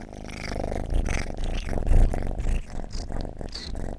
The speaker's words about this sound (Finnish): Täällä tutkaillaan aika innokkaasti myös tätä mikrofonia. Pieni musta pösö on kyllä äärimmäisen ihmisystävällinen. Tässä pyörii koko ajan ympärillä, kehrää ja kiehnää suorastaan.